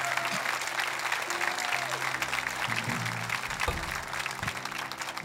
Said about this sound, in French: Et voulez-vous applaudir ce qu'il a fait dans votre vie?